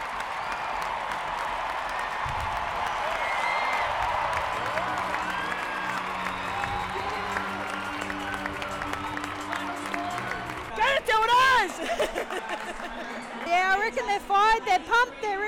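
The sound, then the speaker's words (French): A crowd of more than 50,000 spectators at Marvel Stadium cheers and applauds after the Matildas beat France in a women's football match. The cheering is a steady, dense roar that holds loud throughout, with a few sharper individual shouts rising above it near the end. “Une victoire au Marvel Stadium devant plus de 50 000 spectateurs. De quoi ravir la foule locale.”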